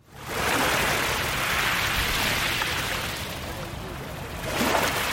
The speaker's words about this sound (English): The soothing sound of waves at Eilat in the north of the Red Sea.